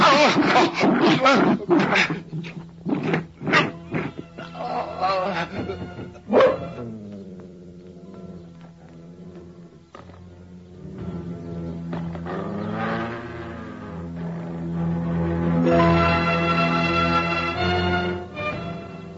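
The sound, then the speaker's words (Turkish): A rabid Karabash dog growls and snarls ferociously as it bites a man it has pinned to the ground, with harsh, rasping bursts up front giving way to long, rumbling growls that swell and fade, loud and continuous for most of the stretch. “Bu karabaşın sesi.”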